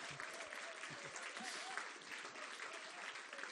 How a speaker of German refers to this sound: Lasst uns mal einen Applaus geben, die da zu Hause sitzen. Ja.